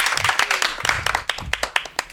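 A school class claps together in a dense burst of overlapping hand claps, with a few sharper individual claps standing out as the applause continues.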